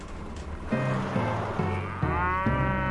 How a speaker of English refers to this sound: You pulled us away from Wild Mustangs to check out a cow? It is not about the cow.